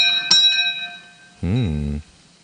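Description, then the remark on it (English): A single bell strike rings out clearly, its bright tones hanging and slowly fading, followed by a short, louder tonal sound that rises and falls in pitch before cutting off. “Saved by the Bell.”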